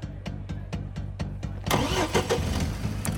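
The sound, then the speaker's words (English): A car engine cranks with a quick, even starter rhythm of about seven pulses, then catches and roars into a loud, rough idle that keeps running, as the driver sets off for the Los Angeles courthouse. “I get in my car and hightail it down to the Los Angeles courthouse”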